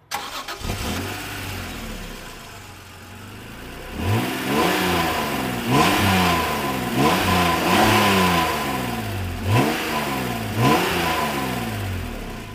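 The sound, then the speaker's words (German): A car engine starts and idles low, then revs repeatedly in a series of rising and falling bursts, fairly loud, with no one speaking. “der Sound wird dem Auto gar nicht gerecht”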